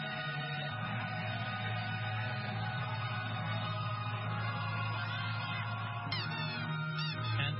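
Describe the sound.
A person imitates duck quacks in a loud, nasal, honking voice, quacking several times to entertain an audience during a one-hour event that mixes humor with current affairs; the calls run together almost continuously, with no ordinary speech.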